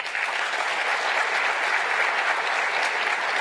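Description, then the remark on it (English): Steady, dense applause from a sizable audience during a speech, recognizing public works crews who removed log jams in the Rouge River, many hands clapping at once in a continuous wash of sound that holds at an even, fairly loud level throughout. “They've made incredible progress, and they deserve a round of applause.”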